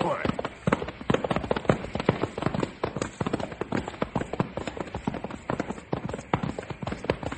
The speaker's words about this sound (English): Man, what a blazing inferno. That jet fuel really burns. Yep, sure does, …. Worse than fire.